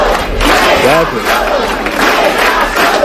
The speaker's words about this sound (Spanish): en la sala se forma cierto revuelo, se expulsó a esta mujer y el resto de asistentes empiezan a corear otro grito, le dicen a Sánchez que no está solo.